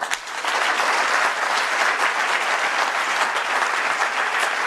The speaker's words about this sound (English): There we go, and he's been clapped. He's been clapped by his own party.